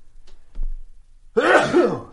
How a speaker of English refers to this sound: I'm going to sneeze. Hang on a second.